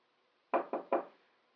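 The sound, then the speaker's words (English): Three firm knocks on a wooden door left ajar, at the head of a staircase, in quick, even succession, fairly loud, with silence before and after. “Standing there knocking, I suddenly realized that the door was ajar.”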